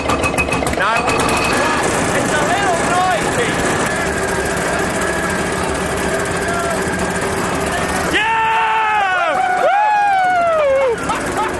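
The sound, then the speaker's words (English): A team-built claw machine whirs and grinds, its whine sliding up and down in pitch as the claw drops an object into a hopper, before a sudden launch that fires it into a wall, all under loud, steady crowd chatter. “The claw works, it drops into the hopper, and it fires.”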